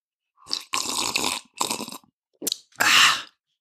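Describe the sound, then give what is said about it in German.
Someone slurps coffee in about five airy, hissing sips of uneven length, the last one long and loud, with short silences between and no talking. “Genau, ich schlürfe dabei von meinem Kaffee.”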